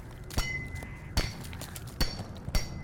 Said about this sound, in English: From blackness, a jagged pinhole of bright light appears and gets bigger with each hammering sound.